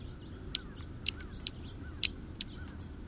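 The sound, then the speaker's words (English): A flock of small birds pecking at scattered seeds on open ground on a cool mid-October morning gives short, high, sharp, nervous chirps at irregular intervals, about six quick calls over a few seconds, over a low steady background rumble with no talking. “The flock's nervous twittering betrays the small bird's ever-cautious behavior when feeding on open ground.”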